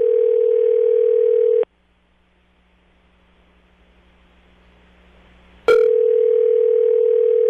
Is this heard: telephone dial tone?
yes